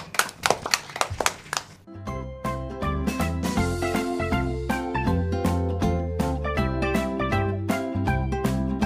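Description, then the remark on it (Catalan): A brief burst of scattered applause for two young girl reporters on a radio programme lasts about two seconds, then gives way to a bright, rhythmic musical jingle that carries on steadily to the end. “Un aplaudiment per a aquestes informadores.”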